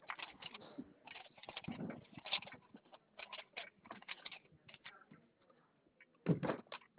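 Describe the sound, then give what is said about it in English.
A sheet of paper is unfolded: irregular bursts of crinkling and rustling spread over several seconds, with quiet gaps and a louder crackle near the end. No one speaks. “Okay, I've got a piece of paper. Let me get it unfolded real quick.”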